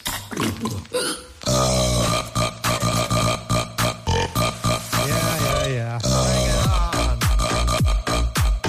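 Loud, sustained burps roll out one after another in a rhythmic, song-like pattern, with stacked tones that rise and fall like a melody being belched over a steady beat.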